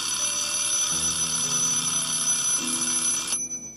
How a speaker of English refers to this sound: Yeah, that's what an alarm clock's for. When it goes off, it reminds you to either get up or do something else.